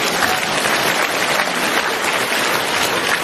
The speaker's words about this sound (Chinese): 好了，鼓鼓掌，让他下去。